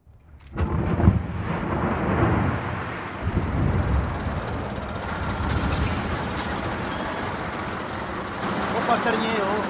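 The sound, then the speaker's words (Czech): A limestone quarry blast, set off by the shotfirer from a bunker, goes off with a sudden deep boom, then a heavy rumble rolls on and echoes for several seconds, with faint debris noise and wind in the background. “Natočím a budeme pálit. 3, 2, 1, pálím!”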